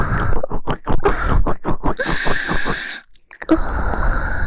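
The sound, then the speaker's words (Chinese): Loud, wet chewing and crunching in a steady rhythm of bites for a few seconds, a brief pause, then softer continued munching with no talking. “宝贝，你看看，你把人家吃了搞得一片狼藉。”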